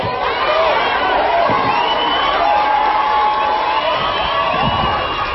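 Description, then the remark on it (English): A large crowd of black and white parents shouts and yells over one another in a school stadium during a meeting, a dense, loud, continuous roar of many agitated voices with no clear words standing out, steady throughout. “It was not long before the stadium turned into a shouting match between black and white parents.”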